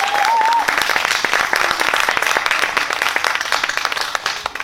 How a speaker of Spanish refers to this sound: Así que, bueno, bienvenidos todos al Guardabosques. Ahora sí que, por favor, aplaudid, dadle caña.